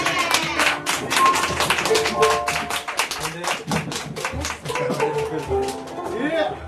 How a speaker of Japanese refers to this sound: もう一度紹介します。…、拍手。